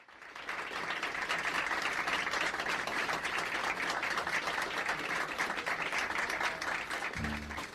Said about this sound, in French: Ben, c'est gentil, les applaudissements, mais ce n'était peut-être pas pour nous, c'était peut-être pour des musiciens qui allaient se faire entendre, je ne sais pas.